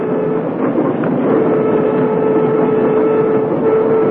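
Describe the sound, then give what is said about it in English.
A commuter train rolls steadily along the rails, a loud, continuous rumble with faint rhythmic clatter and a low humming drone throughout, with no voices. “Why, I know all about the Orient Express, but a commuter train?”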